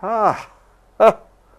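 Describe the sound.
A person mimics the bark of Dr. Pavlov's dog with their voice after the bell is rung: a drawn-out, falling yelp followed after a short pause by a second quick, clipped bark, fairly loud.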